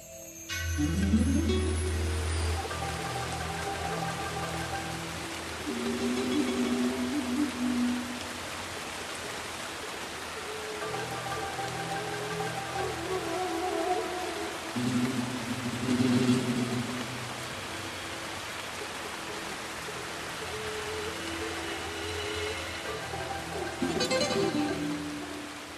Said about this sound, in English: So the rain is easing off now, but boy, was that some rain. You'd never get rain like that in Ireland.